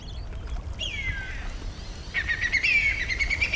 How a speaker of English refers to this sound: And there's the whistling kite. It's come. Did you hear that?